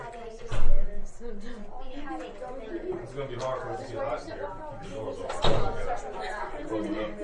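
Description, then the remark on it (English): A door shuts with two solid thuds, one near the start and another a few seconds later, while indistinct chatter from several people continues in the background. “Let me shut this door real quick.”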